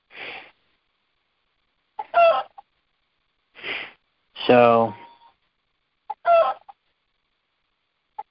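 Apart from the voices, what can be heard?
roosters crowing and clucking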